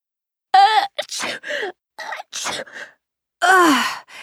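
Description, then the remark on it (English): A person with allergies sneezes several times, each loud burst preceded by a drawn-out voiced intake, with brief pauses between and a final strained, groaning sneeze at the end. “But isn't it funny how we automatically do that when someone sneezes?”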